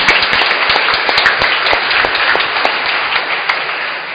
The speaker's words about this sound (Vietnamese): Cộng đoàn chúng ta cảm ơn và chúc mừng các cụ một tràng vỗ tay thật lớn.